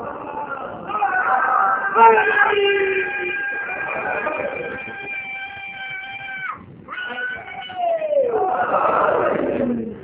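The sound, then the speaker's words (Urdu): During a speech, a crowd loudly chants slogans led by a child, with voices drawn out into long sustained calls that rise and fall, continuing for several seconds before a brief pause and another surge of shouting. “اس بچے نے کل وعدہ کیا تھا کہ دو دفعہ یہ نعرے لگائے گا, دوسرا موقع بھی کوئی آئے گا تقریر کے بیچ میں.”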